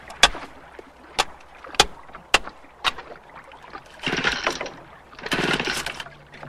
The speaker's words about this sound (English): I guess when I rocked the boat, I must have got a little water in the engine. I can fix it.